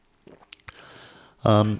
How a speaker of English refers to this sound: And we've got 10 points, so I'm just going to have a little sip of water. You probably noticed I've been doing this.